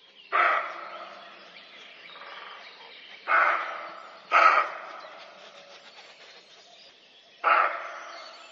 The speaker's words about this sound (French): C'est une sorte d'aboiement qu'on vient d'entendre. Voilà, un aboiement, mais ce n'est pas un chien. Donc c'est un aboiement qu'on peut entendre aussi le jour quand on dérange un chevreuil. Donc le chevreuil aboie, le mâle comme la femelle.